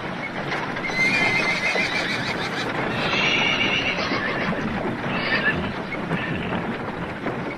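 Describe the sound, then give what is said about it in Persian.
A horse-drawn cart rolls along steadily, hooves clip-clopping over a continuous rumble of wheels, with a horse whinnying partway through. The sound is fairly loud throughout. “تازه فهمیدم رو عرابه در حال حرکتم.”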